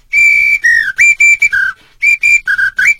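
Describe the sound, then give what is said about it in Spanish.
A Brazilian samba whistle blown in a quick, rhythmic run of about ten loud, shrill blasts, its pitch jumping between two tones, with a brief pause midway and no talking. “Es silbato de Brasil, de Brasil.”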